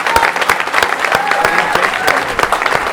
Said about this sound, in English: A massive round of applause for Audrey.